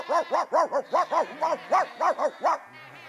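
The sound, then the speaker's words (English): A three-legged sheepdog herding lambs in a town street barks rapidly and insistently, roughly a dozen sharp, loud barks in a steady quick rhythm, then stops, leaving a faint low rumble. “The three-legged dog, sensing a paying job, hops, bounces and limps into action.”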